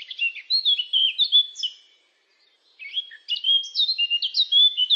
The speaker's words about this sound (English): Cheep, cheep, cheep, cheep, cheep, cheep, chirps a Eurasian blackcap while flying by. Okay, maybe it sounds a little bit different.